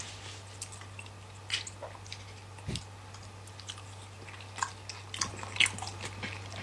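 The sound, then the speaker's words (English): Loud crunching and chewing of crisp chips in irregular bursts, with a thick gulp partway through, recorded on an iPhone microphone, over a steady low electrical hum and no talking. “Chips are good. The gulp is crazy.”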